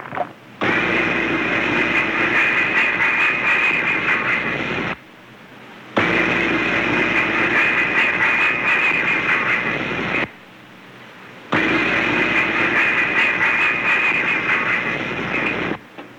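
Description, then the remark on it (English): A voice imitates a passing steam locomotive in three long, loud bursts of rushing, hissing noise, each lasting several seconds and separated by short pauses. “Rather, it is an imitation of a passing steam locomotive.”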